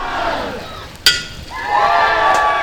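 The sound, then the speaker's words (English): A single sharp smash of a champagne bottle breaking against the bow of the new research vessel Prairie Springs, a 32-foot aluminum catamaran, at its christening by UWL's River Study Center in drizzling rain, cuts through crowd chatter, and loud cheering and whooping swell up right after. “Despite a drizzling rain, UWL's River Study Center christened their new research vessel Prairie Springs with a champagne bottle break across the bow.”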